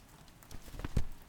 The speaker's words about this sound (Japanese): 雨に濡れちゃいけないから傘さすね。